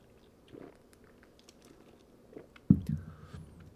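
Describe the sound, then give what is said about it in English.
Mouth sounds of someone sipping Diet Mountain Dew soda: faint wet smacks, then a sudden louder slurp and swallow near the end, with a brief thin squeak trailing after. No one speaks. “And it's time for a dragon hand after a sip of Diet Mountain Dew.”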